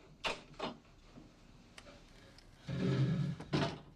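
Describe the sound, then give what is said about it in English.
A wooden chair is slid back underneath a door lock: two quick knocks, a pause, then a longer grinding scrape across the floor ending in a final bump. No one speaks. “Jay slides the wooden chair back underneath the lock.”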